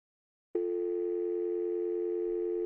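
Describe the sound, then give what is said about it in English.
After a brief silence, a steady telephone dial tone switches on abruptly as a woman on the other end hangs up, and holds unbroken and loud, with no voices. “And then you hear the tone as she hangs up.”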